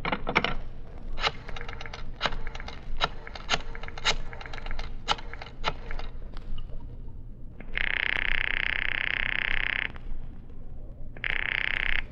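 Pages of a telephone book being flipped to look up a daughter's phone number, in a quick, irregular series of crisp papery snaps for several seconds, followed by two bursts of a steady, high-pitched buzzing tone.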